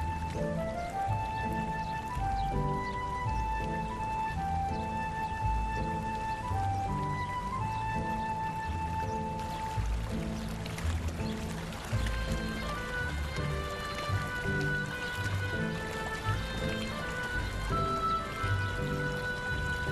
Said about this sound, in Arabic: هذا هو نبع الماء والبركة التي أخبرتك عنه. شكرا لك. هل يمكنني الشرب منه؟ بالطبع يمكنك الشرب، فهو ماء نبع.